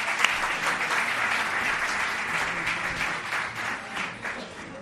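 An audience in Almería applauds a guest steadily for about five seconds, a dense wash of many hands clapping at even loudness that tapers only slightly toward the end, with no voices rising above it.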